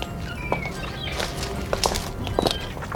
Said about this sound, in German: Plötzlich näherten sich Schritte.